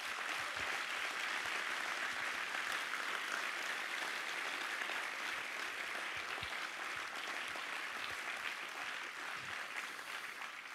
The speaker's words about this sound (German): Und ihr könnt euch schon warm klatschen, das bleibt jetzt ein bisschen so.